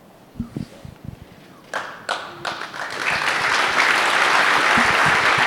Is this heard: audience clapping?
yes